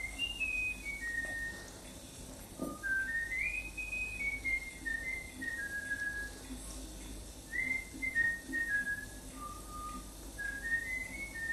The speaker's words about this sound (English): So this first recording I'm going to play you is of a German forester whistling the tune he wants his bullfinch to learn. It's in German. So this is somebody telling the German guy to whistle it. So he goes.